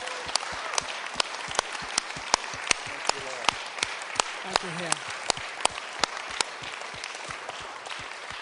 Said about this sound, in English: So before we begin, can we just thank the Lord? So bevor wir anfangen, können wir einfach dem Herrn danken. Let's just give him a hand clap. Lass uns einfach ihm einen Applaus geben.